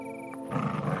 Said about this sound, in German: Das Untier knurrt bedrohlich und schabt mit den Krallen an deiner Tür.